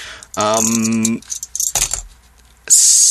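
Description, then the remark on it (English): Dice clatter and tumble across a hard surface in a quick burst of sharp clicks, right after a brief spoken word, followed by a soft hiss; the dice are rolled for a listen check during a game. “Roll to listen.”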